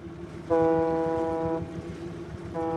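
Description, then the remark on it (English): A boat's deep engine chugs steadily as it leaves a harbour with local fishing boats, heading out to Klettsvik Bay in Iceland. A loud ship's horn blasts for about a second, then sounds again briefly at the end. No one speaks. “Yeah, we're just leaving the harbour here, and you can see some of the local fishing boats in the harbour, and we'll be heading out to Klettsvik Bay”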